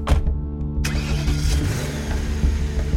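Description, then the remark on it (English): A car engine turns over and catches, then settles into a steady rumble that builds slightly as Jerry begins pulling away in the car into the night. No one speaks. “Jerry got into the car and drove off into the night.”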